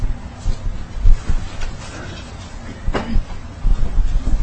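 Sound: chair being moved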